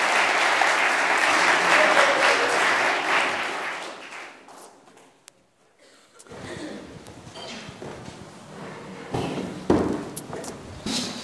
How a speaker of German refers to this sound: Begrüßt doch mal mit einem ganz herzlichen Applaus hier vorne auf der Bühne.